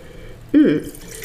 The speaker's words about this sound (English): All right, so I have it open. Let's pour some out. Into a wine glass. Ooh, I like the color.